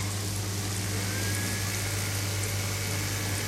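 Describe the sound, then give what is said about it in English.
A steady, dense sizzle of potatoes frying in a pan, with a constant low appliance hum running underneath and no voices. “And start frying those potatoes in that frying pan over there and turn on the vent so it doesn't get too smelly.”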